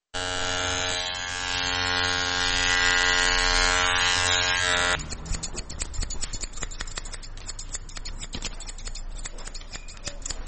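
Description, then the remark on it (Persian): Hair clippers buzz steadily and loudly for several seconds, then give way to a quick, continuous run of crisp scissor snips cutting hair, with no voices, in a barbershop in the Chaharahi Salim Karwan area of Kabul, Afghanistan, where schoolchildren's hair is cut very short. “وای میگوید که قیچی موهای شاگردان مکاتب آنقدر عمیق صورت میگیرد که در بسیاری وقتها بدون پوشیدن کلاه چاره دیگری هم نمیداشته باشد.”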